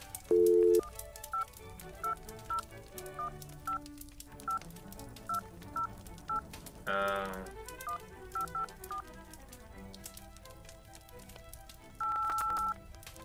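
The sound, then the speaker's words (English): A telephone keypad dialing: a quick run of a dozen or so short, bright beeps at an even pace, bracketed by a longer tone at the start and a sustained tone at the end. “Where's that blasted phone? There we go.”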